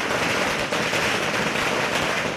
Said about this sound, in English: Firecrackers are set off to celebrate the Festival of Lights. Government bans on firecrackers are rarely enforced.